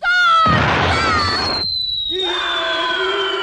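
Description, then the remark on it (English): A cartoon wolf in a North Korean stop-action animated children's TV show howls and screams as it is shot with a loud artillery cannon blast, followed by a long, wavering high-pitched wail that trails on after a brief pause, all loud with no talking. “The screams of a dastardly wolf. Shot with an artillery cannon.”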